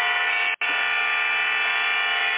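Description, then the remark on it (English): Car horns blare in traffic in a long, steady, buzzing chorus, cutting out for a split second near the start and then resuming just as loud, with no voices. “Yeah, that's what it sounds like. Traffic and weather”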